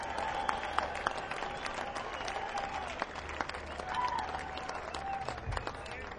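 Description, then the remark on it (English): A crowd at a blues festival breaks into sustained applause for the crew, many hands clapping in a dense, steady patter for several seconds, with faint voices mixed in underneath. “So why don't everybody give the crew a big hand round of applause?”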